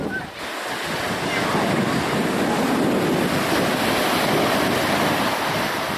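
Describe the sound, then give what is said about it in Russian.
Ocean waves break and roll onto a foggy dog beach, with surfers appearing as the wave comes, in a steady, loud wash of surf, with gusting wind buffeting the microphone throughout. “Вот пошла волна, вот появились серферы, которых не было.”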